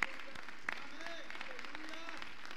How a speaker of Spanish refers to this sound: Let's give him a hand praise. Vamos a darle un aplauso al Señor en esta noche.